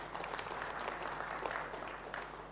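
A small group claps for a couple of seconds for a volunteer who has come up, a dense, steady patter of hands that stays fairly even before tapering off slightly at the end.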